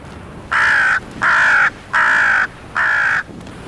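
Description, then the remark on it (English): Four loud, harsh crow caws in a steady series, evenly spaced, alarm calls from crows mobbing an eagle, with no one speaking. “When they spot an eagle, they make loud alarm calls and fly up to confront the threat.”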